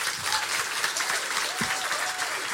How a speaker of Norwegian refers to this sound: Men nå en stor applaus til kveldens gjest, runolog og museumskonservator ved Follo Museum